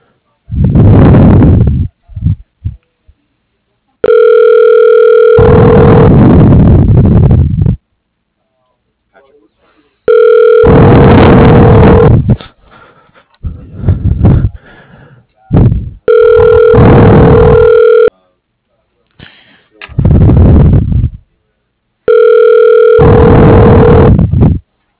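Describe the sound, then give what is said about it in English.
A telephone rings repeatedly while a call is being transferred to a voicemail, in steady, evenly spaced bursts of a buzzing ring tone, about four rings separated by pauses, with faint speech-like sounds between them. “Yes, I can put you through to it.”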